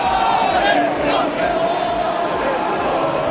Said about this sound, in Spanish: Es el grito del corro del equipo español.